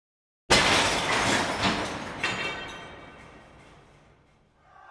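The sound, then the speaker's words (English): After a moment of silence, a thrown brick shatters glass in a sudden loud crash, followed by a few seconds of tinkling, clattering shards that gradually fade away. No voices are heard. “I'm not even sure who did it, but someone threw a brick, I think.”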